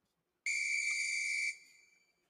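A single sharp, shrill whistle blast held steady for about a second, loud and close, then cut off with a brief fading tail. No voices are present.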